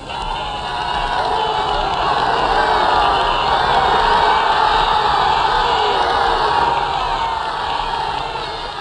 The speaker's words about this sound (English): People were giving us flowers, tomatoes, everything. It's been the most marvelous procession I've ever seen. Here they are, they're just mad with joy. Just listen to these crowds.